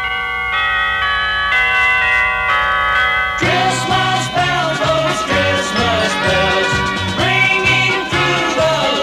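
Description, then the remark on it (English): Church bells from a village ring out with sustained, shimmering tones, then swell into a fuller, busier peal with a steady rhythmic pulse, loud, with no voices. “Or was it the bells from the village below?”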